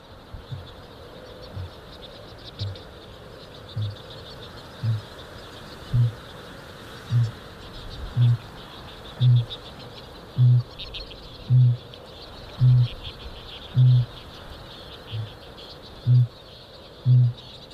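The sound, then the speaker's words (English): A male kākāpō booms, a series of about fifteen deep, resonant low thuds spaced roughly a second apart, growing louder and then easing, over a steady wash of insects and chirping birds. “Kākāpō, the booming of the male kākāpō is a little bit like the heartbeat of the land.”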